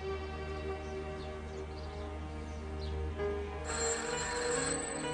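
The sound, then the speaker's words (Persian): A telephone rings with a steady electronic tone that brightens partway through, fairly quiet and continuous with no voices over it. “پس زودتر بیا، من میرم تلفن رو جواب بدم.”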